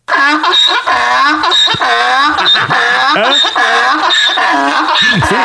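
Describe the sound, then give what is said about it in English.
A donkey brays loudly, its harsh, wheezing hee-haw rising and falling over and over in a steady, rapid rhythm with no pause and no talking. “I play real donkey?”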